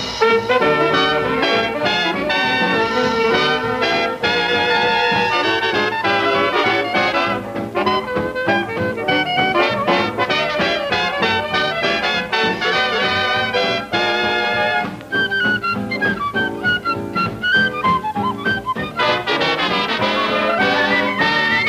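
A dance band orchestra plays a bright, busy tune with layered horns and a steady beat, loud and continuous throughout, with a high piping melodic line near the end and no talking.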